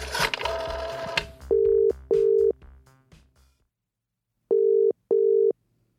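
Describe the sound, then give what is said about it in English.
A short clatter of phone dialing leads into a telephone line's tones as a call is placed to JJ Bull of The Telegraph: steady beeps arriving in two pairs separated by a silent gap, clear with no one speaking. “Oh, mate, we really need to get a new phone.”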